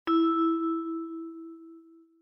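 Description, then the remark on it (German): A single bright chime, a signal tone in a German language exercise prompting the listener to repeat words, rings out with a sharp attack, then a steady mid-pitched tone sustains and slowly fades over about two seconds, with no voices. “Hören Sie die Wörter und wiederholen Sie sie nach dem Signal.”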